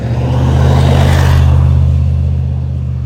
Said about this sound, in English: Let me let this truck go by.